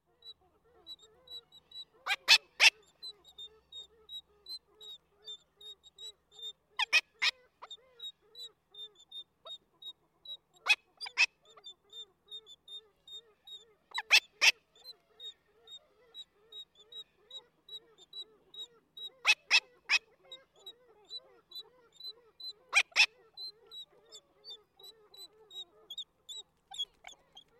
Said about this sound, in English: The final act of courtship is preceded by soliciting from the female, uttering long sequences of this high-pitched food-begging call, and here she is accompanied by the loud coughing calls from the male as he shakes his head.